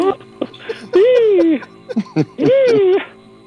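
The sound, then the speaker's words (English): A person imitates an emu's turkey-like call twice, each a loud, drawn-out hooting cry that swoops up then down, with short voiced sounds in between. “Is that the sound of the pimped out turkey? That's the sound the pimped out turkey makes.”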